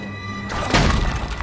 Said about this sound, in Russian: Кусок каменного карниза падает с крыши и разбивается у ног Джулиана.